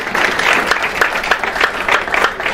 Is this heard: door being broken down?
no